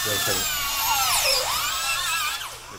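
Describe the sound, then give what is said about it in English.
A high-pitched dental drill whines steadily as an oral surgeon drills into a college-age man's impacted wisdom tooth to remove it, at a practice in Devon, Pennsylvania. Its pitch dips and rises as it bears down, fairly loud, with a faint low background murmur beneath. “So get ready, because he's about to drill into a college-age guy's impacted wisdom tooth to remove it.”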